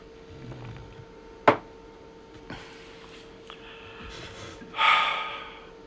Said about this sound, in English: The fourth way we should worship, and I think to me, my friends, let me get a sip of water.